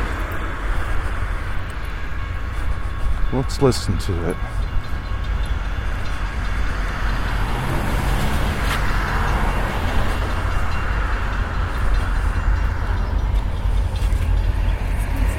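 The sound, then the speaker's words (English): A train rumbles steadily past, a loud, continuous low roar with rattling and a few brief squeals, filling the whole stretch; a voice speaks briefly near the start. “We are going to get a train.”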